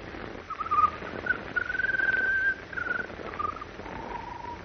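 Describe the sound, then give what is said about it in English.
A bird sings an odd, wavering song of thin whistled phrases: short warbles, then a long sustained trill, then lower fading notes, over a soft background hiss with no voices. “When the bird started to sing, her pulse became much stronger.”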